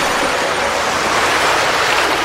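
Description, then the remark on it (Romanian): A steady, loud wash of ocean waves, a continuous hissing surf roar with no distinct breaks between swells and no voices. “Noaptea, valurile, numai până mâine dimineață.”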